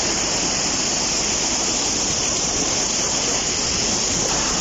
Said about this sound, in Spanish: Atentos porque así suena el río Saja en estos momentos a su paso por esa localidad.